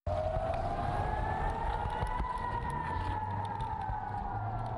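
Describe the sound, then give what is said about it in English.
A steady air raid siren wails continuously over Israel during rocket fire from Gaza, its tone drifting slowly up and then down, loud and sustained over a low rumbling background with no voices. “Air raid sirens and missiles are heard in the skies over Israel as Israeli Defense Forces early Tuesday fired its Iron Dome anti-missile system at rockets fired from Palestine.”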